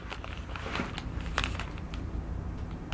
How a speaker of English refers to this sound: Oops, that's a big bite. Chew it up.